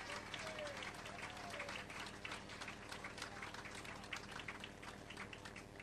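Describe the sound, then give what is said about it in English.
A crowd applauds steadily for several seconds as a prize winner, a member of the board of directors of BITS, is called up to get his prize. Dense overlapping claps fill the room at a constant, fairly loud level, with faint voices mixed in beneath the clapping. “Give him a big round of applause, you guys.”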